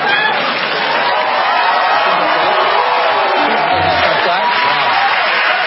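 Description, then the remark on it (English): An audience applauds and cheers steadily throughout, a dense, continuous wash of clapping mixed with whoops and crowd noise that stays loud from start to finish. “Applause. They're actually cheering me.”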